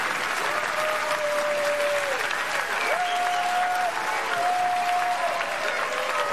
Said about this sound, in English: Ah, oh, great animal dancing. Give yourselves a big clap, everyone. Well done.